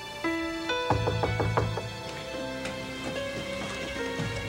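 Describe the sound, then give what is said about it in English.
A quick run of about five sharp knocks on a door by four German soldiers at Christmas, fairly loud, sounding over a steady bed of sustained musical tones that continues after the knocking stops. “The GIs had just begun to relax in anticipation of an unexpected holiday meal when there was a knock at the door.”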